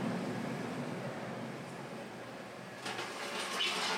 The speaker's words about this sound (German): Vorsicht, Bahnsteig 2, Zug 1949, Bahnhofsrestauration, fährt ein.